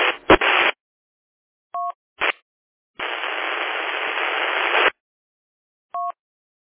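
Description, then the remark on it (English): Two radio stations transmit at once and collide into loud bursts of harsh static, broken by short two-tone beeps, with one long hissing stretch of noise in the middle. No one speaks clearly. “Okay, I know I have two stations that doubled, so I missed one or two calls”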